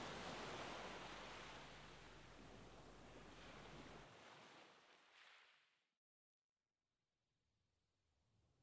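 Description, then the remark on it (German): A steady roar of surf breaking on a sandy beach washes in, broad and full, then thins and recedes to near silence before a soft hiss of water returns. No one speaks. “Du beobachtest eine Weile, wie die Wellen sich am Strand brechen.”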